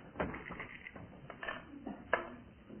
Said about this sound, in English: We've just got time for another round of the well-known board game Bordo. You remember how it was poised last week, so Barry, it's your turn now to throw the dice.